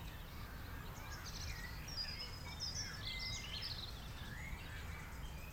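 Faint, distant birds chirping and twittering in scattered short calls in a forest, over a steady low rumble of background noise, with no one speaking.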